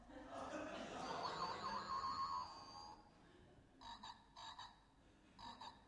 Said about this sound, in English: Jack in a box, close, but not quite. It is a frog.